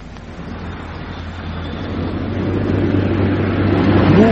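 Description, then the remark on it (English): A car, the one being looked out for, registration UYT576J, speeds in: its engine roars louder and louder over a few seconds, a deep steady rumble with rising tyre and wind noise. No one speaks. “Hey, what was the number of that car we're supposed to look out for?”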